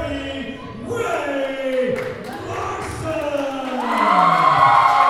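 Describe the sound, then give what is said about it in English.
A loud crowd at an MCPW wrestling event inside the Coliseum Rec Center in Kalkaska on a rainy Saturday night cheers and shouts continuously as a woman challenger heads to the ring for a championship match, with rising whoops and yells layered over a dense roar that swells louder toward the end. “She's pumping up the crowd and throwing high fives.”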